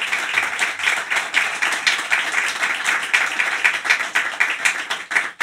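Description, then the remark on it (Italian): A live audience in a hall applauds steadily as it is welcomed at an evening dedicated to Franco Califano, dense overlapping claps for several seconds, with no speech over it. “Allora, intanto do il benvenuto al pubblico che è in sala. Ci fate un applauso, se no mi fate fare figura con la gente a casa.”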